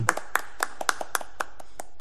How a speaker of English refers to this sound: Virtual clap.